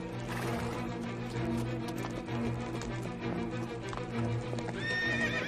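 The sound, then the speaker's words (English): Horse hooves clip-clop steadily over a busy, dense background, and near the end a horse lets out a loud, high neigh. Several animals seem to be moving about. “Join the Kendi flag to the Rabia flag, and ride your horse.”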